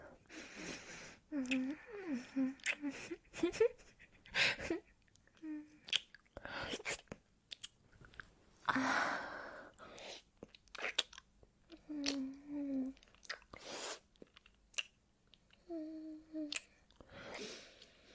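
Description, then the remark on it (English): Intimate ASMR mouth munching on the listener's ears: wet chewing and smacking noises repeat in irregular bursts, interspersed with soft breathy murmurs and hums right at the microphone. “You like munching on your ears?”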